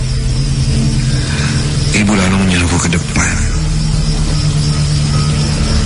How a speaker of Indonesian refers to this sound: Tak lama setelah itu, di luar terdengar suara mobil datang. Ya, sepertinya itu mobil pengangkut sayuran.